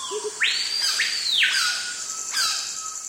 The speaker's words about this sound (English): In the Amazon, heat and humidity virtually smother you. Although a cacophony of bird calls surrounds you, it's hard to see even a single bird.